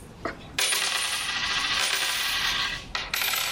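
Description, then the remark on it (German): East German (GDR) coins from a case pour and clatter together in a dense, continuous metallic jingle for a couple of seconds, stop briefly, then spill again, fairly loud with no voices. “Hier ist der Koffer mit den DDR-Münzen.”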